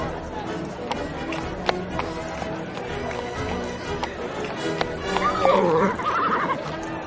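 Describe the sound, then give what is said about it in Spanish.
A horse whinnies near the end, a wavering high call over a steady bustle of hoof clops and scattered taps, with faint murmuring voices in the background. “desmontado, agarra las riendas de su caballo.”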